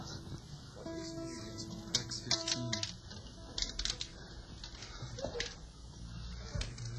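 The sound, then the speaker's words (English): Dice rattle and clatter in quick, irregular bursts of sharp clicks, moderately loud, over a low steady background murmur. “Might be your dice.”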